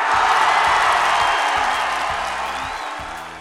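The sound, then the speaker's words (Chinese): A steady wash of crowd applause with cheering mixed in, loud and continuous for a few seconds before slowly easing off. No one speaks over it. “此处有掌声欢呼声，谢谢。”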